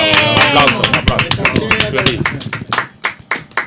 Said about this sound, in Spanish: ¡Un aplauso!